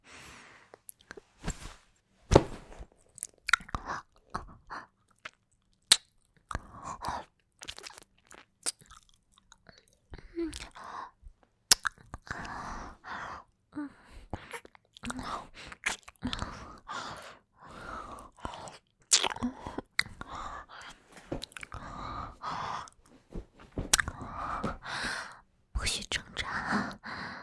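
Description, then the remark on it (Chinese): Quiet biting and chewing mouth sounds: irregular wet clicks and smacks in quick clusters, mixed with soft breathy whispering that grows denser toward the end. “那腺体，我要腺体，你凑过来，让我咬一口，好不好？”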